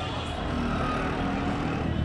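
chaotic city street traffic

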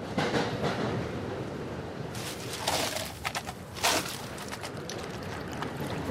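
commuter train interior rumble

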